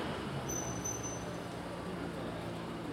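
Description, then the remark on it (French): A car engine rumbles steadily as a man slowly manoeuvres the vehicle to park on the street, a continuous low drone with a thin high whine, with no voices. “Alors, simplement, c'est parce que le monsieur se gare.”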